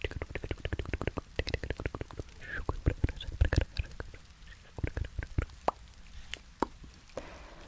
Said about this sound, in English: Unintelligible whispering and like tongue clicking and mouth pattern sounds.